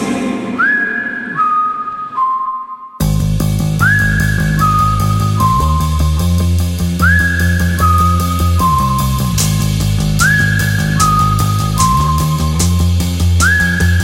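A person whistles a short descending tune, repeating the same phrase about four times. Clear, it starts alone, then continues over a full band backing.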